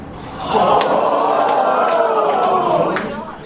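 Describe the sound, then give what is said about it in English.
A crowd of a few hundred students watching Watson answer Toronto in Final Jeopardy lets out a collective gasp that swells into a loud, sustained groan of many voices, lasting about three seconds before fading. “Lots of people are paying attention to this, and you'll hear their gasp when Watson answered that question, Toronto, not even an American city.”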